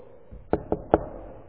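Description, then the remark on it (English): Three sharp knocks on a door in quick, even succession, fairly loud, with no voices or other sounds around them. “Sometime later, there's another knock on the door.”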